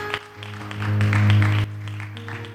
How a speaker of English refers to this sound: Why don't you give him a hand clap of applause, not for him, but for the God that he serves.